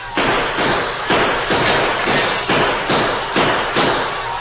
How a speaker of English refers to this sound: They won't expect gunfire from here. We'll shoot over their heads. That may hold them for a little while. Here they are. Shoot high, Tonto.